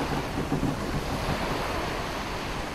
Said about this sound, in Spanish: Ahora estamos escuchando el sonido de la embarcación. Este parece ser un barco de madera. Y podemos escuchar el sonido de la madera crujiendo al desplazarse por el agua.